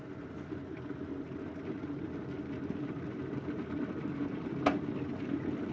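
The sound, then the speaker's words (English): A kettle reheats water to top up a cup of coffee with milk, with a steady, low rumbling hiss that slowly builds, broken near the end by a single sharp click. No one speaks. “Let's get that kettle really hot again.”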